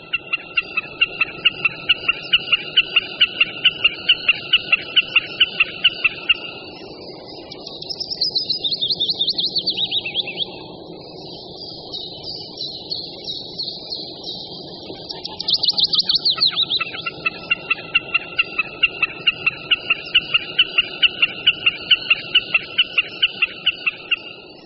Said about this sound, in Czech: Popsat bychom jej mohli jako klapavé tike, tike, tike. Tento hlas vydává sameček nikoli v zaletu, ale když sedí někde mezi trsy trávy v mokřině nebo mokré louce. Vedle bekasiny slyšíme v popředí nahrávky zpěv budíčka většího.